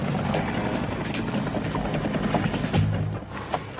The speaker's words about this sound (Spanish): Helicópteros y aviones de reconocimiento han estado vigilándoles.